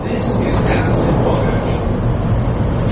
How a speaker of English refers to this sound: We're aboard a Chicago Transit Authority elevated train heading for Chicago's downtown center, known as the Loop.